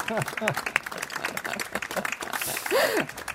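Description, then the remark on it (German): An audience applauds the Jahresmops award going to the title 'Am Tatort bleibt man ungern liegen', with steady, dense clapping throughout, while voices speak and call out over the applause. “Beifall für den Jahresmops, würde ich sagen.”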